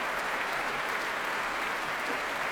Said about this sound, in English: And here are Marco Blau and Tina Ting Helset back on stage with Matthias Pincher. And he's applauding them warmly.